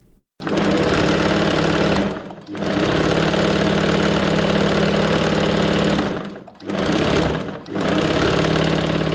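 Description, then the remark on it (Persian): A 40-year-old tailor's sewing machine runs loudly with a steady, rapid mechanical whir, stopping briefly twice before starting up again, with no voices, in Qala-e-Zaman Khan, Kabul. “صدای ماشین خیاطی مشوق‌الله است.”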